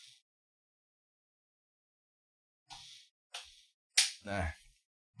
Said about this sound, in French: Juste un instant. Je vais juste fermer la ventilateur derrière moi.